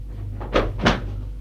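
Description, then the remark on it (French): Two heavy thuds land close together as a man takes a run-up and forces a door open with his shoulder, a short crashing impact followed by a second knock, over a low steady hum with no voices. “Il prend son élan. Et d'un coup d'épaule, il défonce sa porte.”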